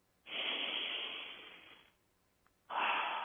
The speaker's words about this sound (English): Simply because of that breath we just took. Let's take another breath right there.